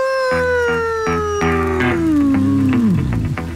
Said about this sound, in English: So you have the howl, and then glass breaks, and then here's your music as you come out.